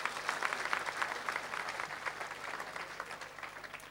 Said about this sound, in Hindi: यहां तक एक स्टेज तक लाने वाले महंत ओमनाथ जी के लिए भी ताली बजाइए ना जी।